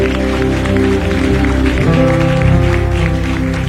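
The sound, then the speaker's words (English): An audience claps hands steadily in a dense, continuous wash of applause over sustained organ or keyboard chords that hold throughout. “Can you clap your hands and bless the Lord for his word?”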